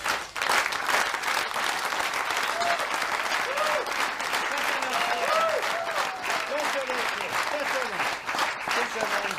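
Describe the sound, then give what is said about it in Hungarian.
Sustained audience applause at the final performance of the sixth series of the Saskabaré cabaret show on ATV, a dense steady wash of clapping that holds at a fairly loud, even level for the whole stretch, with faint voices and cheers surfacing within it. “Ezt megmondom őszintén, mi a Tapsból élünk, ez nagyon jól esett.”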